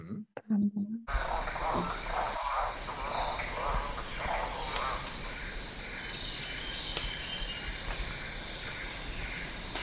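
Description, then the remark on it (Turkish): A rough, bark-like, dog-like call of a red-bearded bird repeats a few times over a steady buzzing chorus of insects in a dense outdoor setting. “Bu da o kızıl sakallı diye bahsettiğim.”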